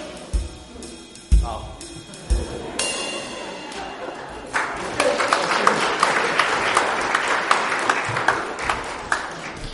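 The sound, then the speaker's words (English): A few scattered thumps and claps at first, then a church audience at a Christmas service breaks into steady, dense applause after a sung Christmas song, swelling midway and carrying on loudly to the end. “We've got a round of applause there.”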